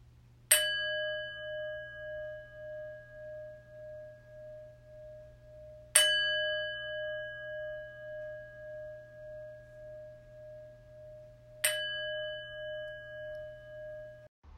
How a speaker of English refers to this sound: The chimes will call us to prayerful meditation.